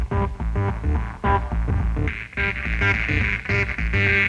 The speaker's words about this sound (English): How about a deep driving fuzz effect? This can be colored by either or both of the tone character tabs.